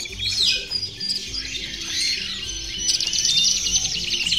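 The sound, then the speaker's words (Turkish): A busy chorus of sparrows chirping and twittering in a forest, many quick high calls overlapping continuously, with no voices. “Kuşlar ormanında 3 minik serçe arkadaş vardı.”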